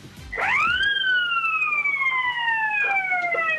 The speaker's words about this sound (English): One more time, let's hear the horn.